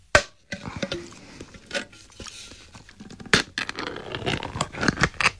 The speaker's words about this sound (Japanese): せっかくなんで、あの、横須賀の同封していただいた海苔も開けますか？これ。海苔はうまいよね。じゃあ、いきます。開けます。